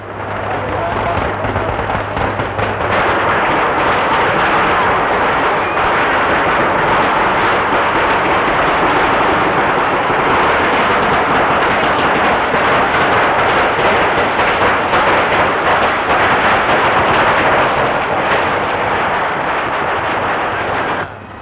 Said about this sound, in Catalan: acaba de començar ja la traca, el repic de campanes, i la traca que intentarem copsar en tot el seu esplendor.